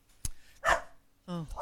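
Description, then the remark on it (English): A dog barks a few times in quick succession, short sharp yaps, fairly loud, with brief gaps between them and no one speaking. “Upstaged by the dog.”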